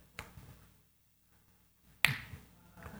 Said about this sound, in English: God, I snap my fingers. You need to jump in.